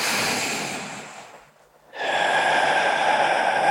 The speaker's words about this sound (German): Wir schließen die Augen, machen eine kleine Meditation. Wir atmen durch die Nase ein, aus dem Mund aus.